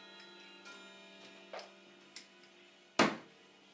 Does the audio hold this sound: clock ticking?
yes